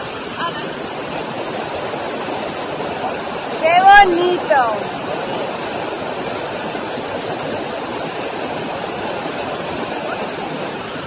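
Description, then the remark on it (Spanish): A steady, roaring rush of falling water from waterfalls fills the whole recording, broad and constant, while a person briefly exclaims over it near the middle. The water comes from all sides, among snow-covered mountains. “Aquí el agua que nos viene por todos lados, las cascadas estas.”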